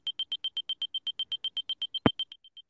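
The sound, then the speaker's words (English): A pedestrian walk signal from a phone app beeps rapidly and evenly, a steady high-pitched tone repeating about seven times a second, with a brief click near the end as the beeps fade out. “As you can hear, that beeps a lot faster, and the phone does vibrate faster to let me know that it's safe for me to walk or that I have the walk signal.”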